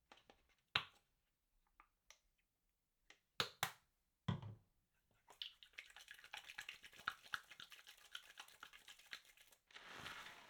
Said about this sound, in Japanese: 今使ってるシャンプー、これ泡立ちがすごくいいんですよ。ほら、もうこんなに泡立ってきた。しっかりきれいにしますからね。